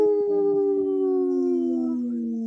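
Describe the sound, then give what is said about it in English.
People on the radio show Native Roots Radio imitate wolves with a long, sustained howl that holds steady and slowly drifts lower in pitch, loud, with no talking. “I only heard two howls.”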